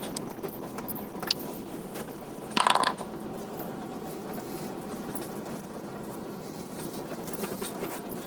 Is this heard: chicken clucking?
no